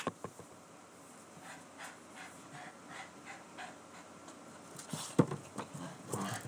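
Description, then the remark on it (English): A dog pants in quick, breathy bursts, then lets out a few louder, sharper barks near the end; no one speaks. “And, King, stop it. No, bark.”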